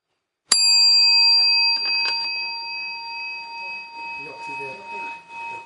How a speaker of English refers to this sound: And my friend, when you hear the sound of the bell, just bring your lunch bottle in front of you with gratitude so you can practice the contemplation.